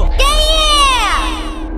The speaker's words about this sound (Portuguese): Geral gritando assim, vai dar problema, vai dar problema, vai dar problema, vai dar problema, vai dar problema.